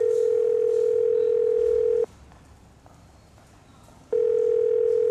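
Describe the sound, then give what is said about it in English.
A phone call ringing on the line: a steady electronic ring tone sounds for about two seconds, pauses for two seconds of quiet hiss, then starts again. No voices. “I'm going to call Hank, so everyone, remain quiet, please.”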